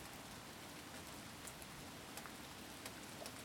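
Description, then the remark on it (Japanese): Steady rain falls outdoors in a continuous hiss, with occasional slightly louder droplet patters standing out; no voices, just an even, moderately quiet wash of rainfall. “雨ちゃんね、雨を眺めるのって結構好きなの。”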